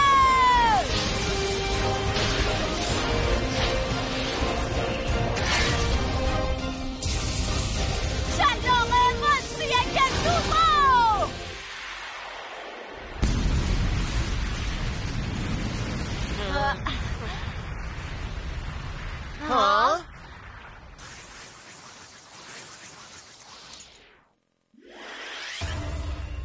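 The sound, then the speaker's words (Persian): A loud, dense explosion sound effect tangled with swooshing whooshes and crashing bursts, roaring almost continuously before dropping out briefly near the end and returning. “یه انفجار شگفت‌انگیز دیگه.”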